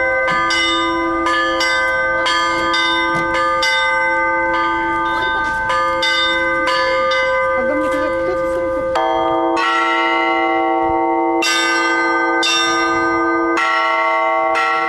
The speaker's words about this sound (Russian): передвижная звонница уже четвертый год сопровождает праздничные мероприятия Светлой Седмицы. У нее тоже миссионерская задача. Каждый удар колокола – гимн воскресшему Христу.